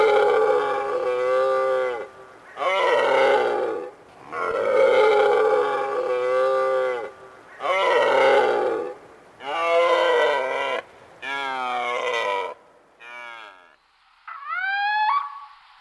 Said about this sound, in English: And then back to deer. And the roar of the red deer stag in full rutting mode.